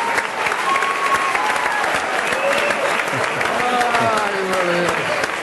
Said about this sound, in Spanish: Vale, bien. Un aplauso.